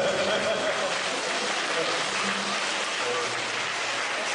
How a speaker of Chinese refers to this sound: 啊，鼓掌了。